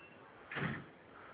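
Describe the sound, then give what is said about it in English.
A single muffled door slam as someone goes out the door, a brief dull thump with a short rushing tail, against quiet room tone and no voices. “Sounds like she just went out the door. Did you hear the door slam?”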